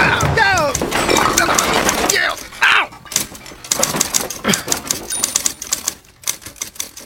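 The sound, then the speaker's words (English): A faulty office chair collapses with a loud crashing clatter, accompanied by a brief vocal outburst, followed by several seconds of scattered rattling knocks and bangs that gradually thin out. “It seems chairs can collapse without any warning, which can cause many injuries.”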